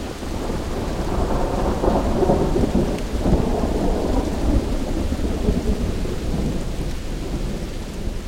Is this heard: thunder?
yes